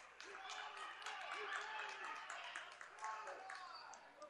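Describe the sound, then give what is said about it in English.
Scattered, uneven sarcastic clapping from a crowd at a basketball game, aimed at the fans from Boys Town, mixed with a steady murmur of many voices, moderately loud and continuous throughout. “And a little sarcastic clapping here for the folks from Boys Town.”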